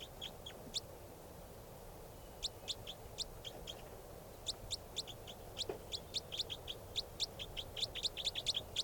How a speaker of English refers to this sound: That's the bird.